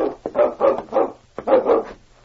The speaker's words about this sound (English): I wonder what he's barking at.